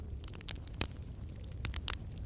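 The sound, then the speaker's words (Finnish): A campfire crackles steadily, with scattered sharp pops and snaps over a low, constant rumble of burning wood. No voices. “Kuulet tuon tulen rauhoittavan rätinän ja otat hengityksiä sisään ja hengityksiä ulos.”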